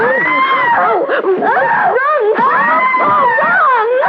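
A woman screams in long, loud, high-pitched wails whose pitch wavers and bends, breaking off briefly midway before rising into another drawn-out cry.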